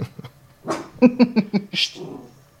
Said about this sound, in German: Jetzt bellt mein Hund.